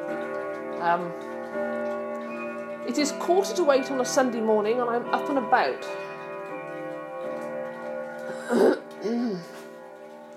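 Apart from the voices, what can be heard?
clock ticking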